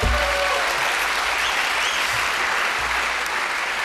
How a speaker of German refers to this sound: Sehr schön. Ja, Applaus.